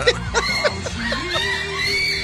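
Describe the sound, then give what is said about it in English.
A girl screams in short, high-pitched bursts that rise and fall, mixed with giggly yelps, fairly loud over a steady background hum. “That's the other girl screaming.”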